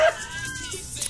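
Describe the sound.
A person imitates an angry cat from the cat fight scene in the film Fallen with a single drawn-out, wavering meow, fairly loud, with no other talking around it.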